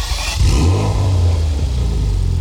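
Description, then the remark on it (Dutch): A Porsche Macan S car engine revs loudly, a deep throaty rumble that surges briefly and then holds a steady growl, with no voices. “Dan is het misschien tijd dat u naar de nieuwe Porsche Macan S luistert.”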